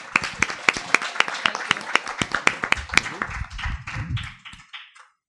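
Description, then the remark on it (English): An audience breaks into applause for a speaker's speech, a steady patter of clapping hands for about four seconds that thins out and fades as a low murmur of voices rises underneath. “And Joe, we're going to give you a final hand.”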